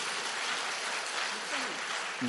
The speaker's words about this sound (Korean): 박수 한번 쳐주세요.